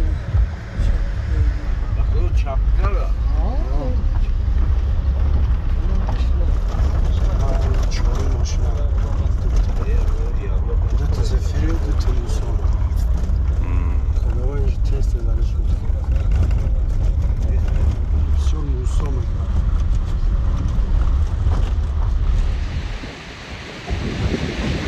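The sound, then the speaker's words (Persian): A vehicle rumbles and rattles steadily along the rough, dangerous road of stones and boulders into the Yaghnob valley, near the village of Marghe, loud engine and road noise with wind buffeting, while people talk over it; the noise drops away near the end. “مثلا نقلیات ما به نزدیکی اولین دهه این وادی، دهه مرغه نزدیک می شود که از تاثیر سنگ و خرسنگ ها چرخ آن شکست”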